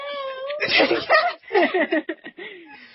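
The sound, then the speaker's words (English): A person does a drawn-out, wavering imitation of a cat's meow, fairly loud, rising and falling in pitch. Breathy, laugh-like bursts come through in the middle. “I'm the alpha meow! You realize you got a clean recording of that, right?”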